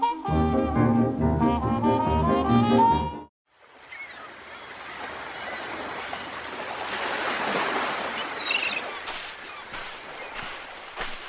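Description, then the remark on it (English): A short burst of tonal music gives way to a steady wash of sea waves breaking on the shore, rising and falling gently in a continuous roar with no voices. “Sitting there by the sea.”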